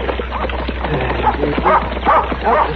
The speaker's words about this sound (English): Get away. Get away, dog.